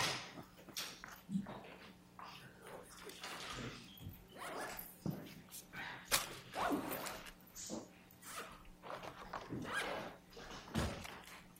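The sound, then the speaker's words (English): A chair being put back in place by counsel at a court hearing: a run of scrapes, shuffles and light knocks, with a few louder thuds as it settles. “Glad you put that chair back, counsel.”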